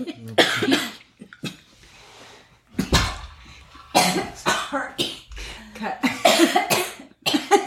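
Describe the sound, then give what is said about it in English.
Someone chokes and breaks into a fit of harsh, irregular coughs, a string of loud raspy bursts separated by strained gasps and throat-clearing. “Did you choke?”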